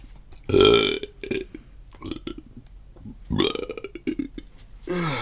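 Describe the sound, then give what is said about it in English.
A loud, long, gravelly burp, rumbling in several drawn-out surges over a few seconds, with no talking alongside it. “It was a big one.”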